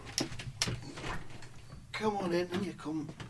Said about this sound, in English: Oh, you're going to let him open the door? Get him in.